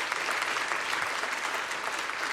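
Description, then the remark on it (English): A church audience claps steadily throughout, a dense, even wash of many hands with no pauses or talking over it, moderately loud from start to finish. “And so how many of you then, this should be a louder clap, how many of you can't stand it and you don't listen to it and you're ready for it to be over?”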